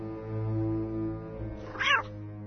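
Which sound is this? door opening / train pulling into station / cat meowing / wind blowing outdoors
cat meowing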